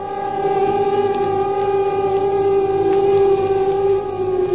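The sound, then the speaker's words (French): An air raid alert siren in the Paris region, March 1942, sounding in the morning before an Allied bombing raid, wails in a steady, sustained tone, holding one loud pitch with bright harmonics and a faint rumble beneath, with no voices present. “Ce matin, l'alerte a sonné.”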